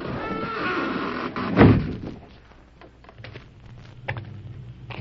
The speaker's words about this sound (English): Behind them, a cleverly concealed door slid shut.